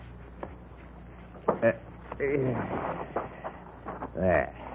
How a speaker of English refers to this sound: Now, I'll take the saddle off my horse.